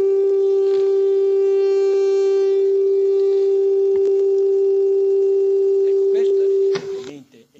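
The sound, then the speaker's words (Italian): A single steady acoustic tone at one frequency, simulating a radio carrier, hums loudly and unbroken for nearly seven seconds, like a pure whistle at one pitch, then cuts off abruptly, leaving a few faint rustling sounds. “Se io vi volessi fare un esempio non radio ma acustico, che è simile, una portante radio, ecco, è una specie di tono, un fischio, ve la ritorno.”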